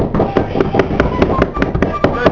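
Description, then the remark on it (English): A far-off helicopter approaching and hovering, a rope ladder hanging down from it: the rotor beats in a steady, rapid chopping rhythm, the thudding pulses holding an even level over a low rumbling drone, with no voices. “We hear the noise of a far-off helicopter approaching, delivering and hovering.”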